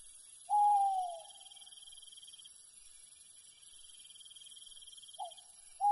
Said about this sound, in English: the owls were calling to each other softly